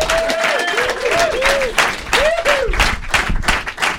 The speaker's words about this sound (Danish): Giv dem en kæmpe stor hånd.